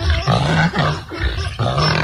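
A donkey brays loudly, a run of harsh, rasping bursts rising and falling in a steady back-and-forth rhythm, with no talking over it.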